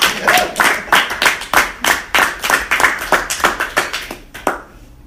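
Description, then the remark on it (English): A crowd claps together in a steady, quick rhythm, about three claps per second, for several seconds before it thins out and stops. No one is talking. “Clap it up.”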